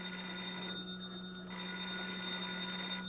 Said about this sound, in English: Yeah, I'll get the phone.